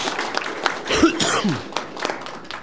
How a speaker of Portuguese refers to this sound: Eu quero registrar a presença conosco aqui do nobre senador Eduardo Braga. Daria uma salva de palmas para ele aí, sempre está.